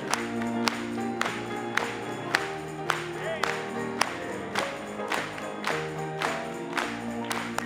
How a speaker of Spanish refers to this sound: Gloria a Dios. Vamos a aplaudirle. Aplaudamos para él. Vamos a aplaudir.